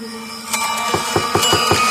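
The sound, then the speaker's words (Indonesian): A quick, steady run of about eight sharp wooden knocks on the front door of a villa, each a firm thud, starting after a brief quiet moment, with a faint steady hum underneath and no voices. “Suara ketukan pintu itu masih terdengar.”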